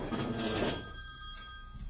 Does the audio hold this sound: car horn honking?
no